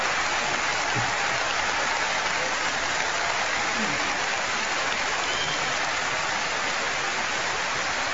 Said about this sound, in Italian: ecco, ci sono anche gli applausi.